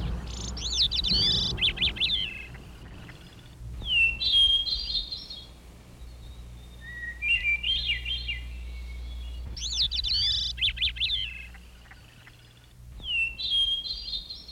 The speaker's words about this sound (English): The birds woke up as the sky changed from black to light.